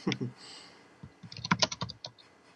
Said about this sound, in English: Stop typing so loudly. What, do you have a mechanical keyboard?